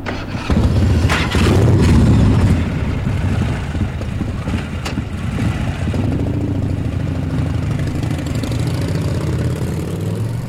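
vehicle, motorcycle engine

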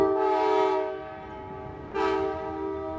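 vehicle, train passing with horn

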